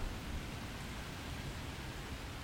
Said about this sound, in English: I can hear the rain now. Pretty clearly, but since I'm under all these trees, I don't feel it yet.